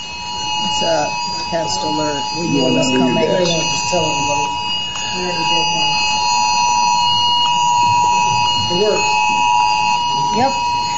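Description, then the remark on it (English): An emergency test alert tone sounds continuously for the whole clip during a congressional hearing on semiconductors, interrupting Senator Ted Cruz's portion; a steady, piercing electronic tone with layered high pitches, while several people keep talking beneath it. “Test alert.”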